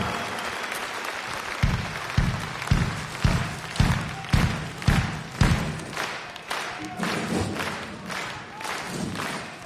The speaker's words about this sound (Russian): Спасибо вам за ваши красивые цветы, за ваши красивые улыбки, за ваши громкие аплодисменты.